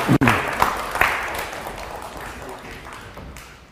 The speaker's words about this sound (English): Right, thank both of you. Give them both a clap.